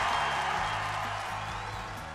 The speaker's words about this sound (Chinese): 哎，此处拥有掌声啊，恭喜。